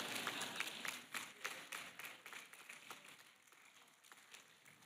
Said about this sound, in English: You can't stop clapping. It's too awkward to be silent.